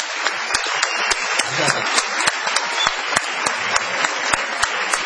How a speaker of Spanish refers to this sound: Vamos a decir que está aquí en la sala, está Santiago Segura, por allí. Vamos, creo, a aplaudir a Santiago Segura. Bienvenido, muchas gracias.